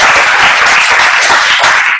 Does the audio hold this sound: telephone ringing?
no